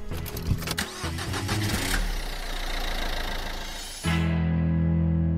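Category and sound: vehicle, car engine starting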